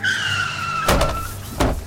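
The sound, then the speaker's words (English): A car's tires screech in a long, loud skid that drops in pitch as it slows, broken by two sharp, heavy bursts near the end. No one speaks. “When that car came out, I thought I was gone for sure.”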